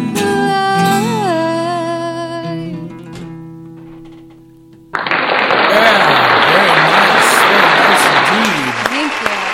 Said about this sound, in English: Double applause. My applause is better. I don't think so. It is. There's more people involved.